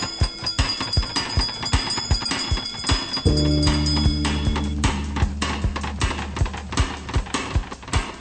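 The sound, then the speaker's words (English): A single deep bell strikes partway through and rings out for a couple of seconds over a steady, rhythmic ticking or clopping that continues the whole time. No one speaks. “Wizards and witches, wherever you dwell, give us a hint by ringing a bell.”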